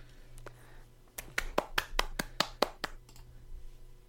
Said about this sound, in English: They warrant that round of applause.